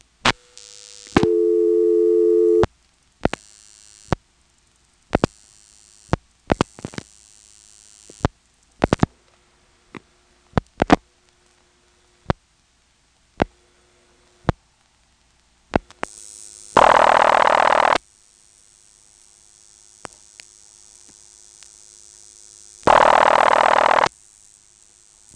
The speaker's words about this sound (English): Here's another call to a ringing number. And again, you can hear normal step noises on the last few digits.